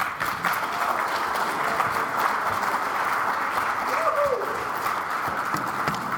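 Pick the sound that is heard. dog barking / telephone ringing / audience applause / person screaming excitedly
audience applause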